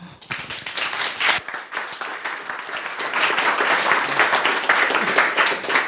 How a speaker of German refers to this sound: Und ich wünsche mir einen ganz großen, dollen Applaus